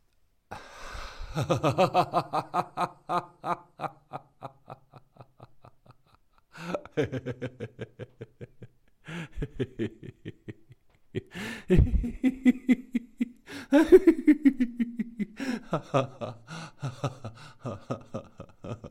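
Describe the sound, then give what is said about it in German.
Fairly loud breathing in a guided breathing exercise, with voiced, pulsing exhalations in rapid bursts that sound almost like laughter, separated by short pauses for inhaling. “Vielleicht mag euch diese Art zu atmen, vor allem die Art des Ausatmens, am Anfang etwas, naja, sagen wir verrückt, etwas komisch vorkommen.”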